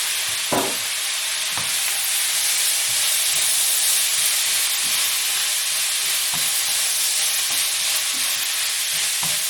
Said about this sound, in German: Ja, das zischelt ganz schön. Ne?